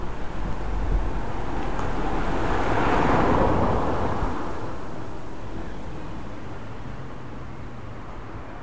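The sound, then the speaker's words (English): A vehicle passes by on a road, its broad rushing noise swelling to a peak and then fading into a steady background hum of traffic. No one speaks. “We need to get across the road. Mind the traffic.”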